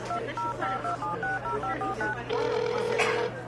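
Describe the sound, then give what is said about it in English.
A rapid run of about ten phone keypad dialing tones, short evenly spaced beeps, followed by a single longer steady tone, heard over a low constant hum. “Wait, where's my phone?”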